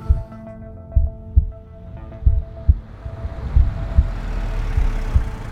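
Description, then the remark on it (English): A slow, steady heartbeat thumps in low, muffled lub-dub pairs over a droning hum, with four beats in quick succession. There is no talking. “I thought sure he was dead, and I could hear my own heartbeat.”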